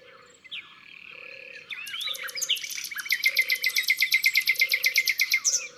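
A nightingale sings in a hedge surrounding a pond, varied whistles building into a loud, rapid run of repeated notes, while frogs croak in steady, evenly spaced pulses low in the background.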